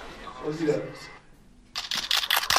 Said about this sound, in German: Okay, ja, das waren auch 5 Schüsse von einer Kamera. Ja, wie viel sind es denn jetzt? 1, 2, 3, 4, 5, 6, 7, 8, 9, 10, 11, 12, 13. Das waren mindestens 14 Kameras. So hören sich 14 Kameras an. Gar nicht so beeindruckend, wie ich dachte.